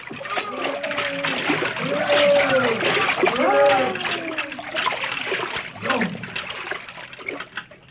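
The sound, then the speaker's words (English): A big whale being lanced by whalemen sounds (dives) with a heavy, churning splash, and water surges loudly for several seconds. Several voices of the whalemen shout over the roar before it slowly subsides into scattered splashes. “That monster sounds now.”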